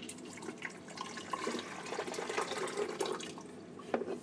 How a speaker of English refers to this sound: Oops, I just spilled some water on my hand.